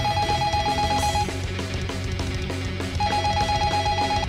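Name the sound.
telephone ringing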